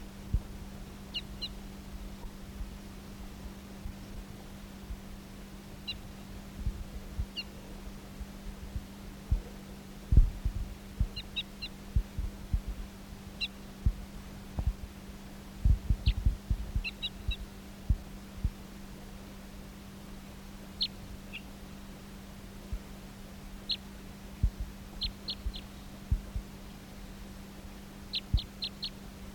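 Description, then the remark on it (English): Short, high-pitched chirps of a bird in song, recorded as bird number 298 on June 2nd, come in scattered pairs and small clusters over a steady low electrical hum, with occasional soft low thumps and no voices. “This is bird 298 on June 2nd in song and toop.”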